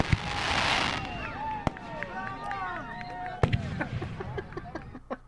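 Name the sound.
cheering sound effect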